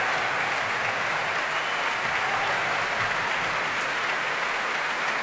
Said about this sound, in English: The wind section standing now to receive the applause.